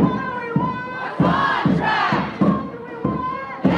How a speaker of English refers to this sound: It's been kind of rainy and dreary in New York City lately, but on Wednesday, the sun was out as crowds of people rallied outside of News Corp's corporate offices in support of the HarperCollins union workers.